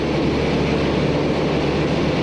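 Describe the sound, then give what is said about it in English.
The propeller engines of the Voyager, a light carbon fiber airplane, roar loudly and steadily as it lumbers down a long runway at the start of its attempt to fly around the world, a dense, unbroken rumble with no voices. “The Voyager begins to lumber down the long runway.”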